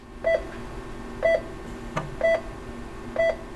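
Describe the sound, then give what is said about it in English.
A steady electronic monitor beep repeats four times at an even pace, about once per second, over a low background hum, with a brief click partway through, in an operating room during surgery, recorded by brain surgeon James Killifer of Knoxville, Tennessee. “Sometimes I just like to have everybody stop talking, and I'd like to turn all the stuff off, even pinch the suction off, and just listen to that simple sound. Beep, beep, beep, beep.”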